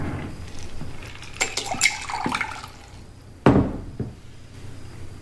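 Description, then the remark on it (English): Water trickles and splashes, with bright liquid bursts in the middle and a sharp splash or drip near the end, over a low steady background. “The water before you is somehow special.”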